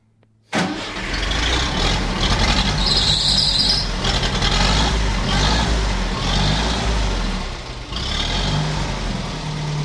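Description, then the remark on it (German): An old, restored Grunder farm tractor engine cranks and abruptly catches, then runs loud and steady with a deep, rumbling chug and rattling mechanical clatter, revving slightly at moments as the throttle is opened. No one speaks. “Da kann man recht Gas geben. Ja, ja. Aber jetzt schnurrt er wie ein Kätzchen, oder?”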